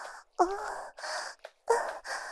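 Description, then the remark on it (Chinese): Rapid, heavy, trembling breathing of a husband over a phone call, in quick bursts, some starting with a shaky, voiced gasp or moan-like catch. Fairly loud, with no talking. “老公，我听到你的呼吸声很急促，还有点发抖。”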